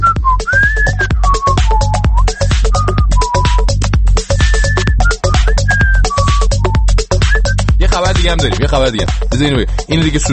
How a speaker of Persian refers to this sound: من اجازه بدید در توضیح این خبر فقط هیچ کاری نکنم، همطوری مثلا سوت بزنم.